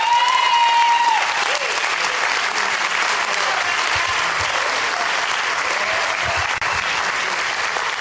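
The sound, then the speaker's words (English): An audience at a church service applauds loudly and steadily, giving the Lord a hand clap, a dense wash of many hands clapping that carries on evenly throughout, with a held musical tone fading out in the first second. “Let's give the Lord a hand clap.”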